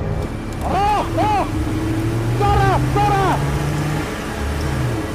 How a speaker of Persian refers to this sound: دارم میان. سه تا ماشین نظامی دنبالشونن.